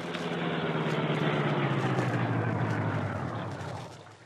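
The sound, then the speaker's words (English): A car rolls slowly off the road toward the shore at night in bright moonlight with its lights off, with a low, steady engine rumble and a broad wash of road noise, easing off and fading toward the end. “Guard not see car moving toward shore.”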